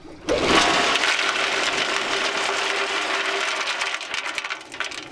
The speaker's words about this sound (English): Okay, this is a bentonite trailer, okay? Bentonite is a kind of super absorbent clay that gets poured down the well to seal off the gas producing formations. Listen for the bentonite to hit the water at the bottom and we'll dump more.